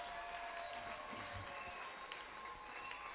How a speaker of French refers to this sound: Est-ce que tu peux recevoir la parole du Seigneur par les acclamations?